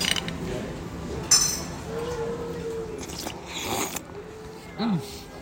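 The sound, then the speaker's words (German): Oyster shells clink and scrape as oysters farmed off Sylt are eaten, a few sharp taps scattered over several seconds against a busy background, with brief murmured voice sounds in between. “Es gibt ja das Sylter Gedeck, sprich Austernschlürfen, die ja auch angebaut, sagt man nicht, ne?”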